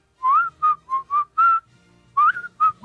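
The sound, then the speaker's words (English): A person whistles a short, breathy melody while inhaling, a quick run of clear pitched notes, a brief pause, then a few more notes, with a slightly airy, strained tone. “Now do it while you're sucking.”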